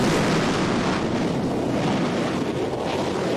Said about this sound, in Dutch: Er komt vuur onderuit de raket en langzaam gaat Zappy omhoog. De lucht in.